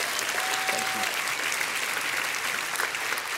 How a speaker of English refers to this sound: who, by the way, I'll just pause and say, would you give her a round of applause for all the work she puts into making this day happen?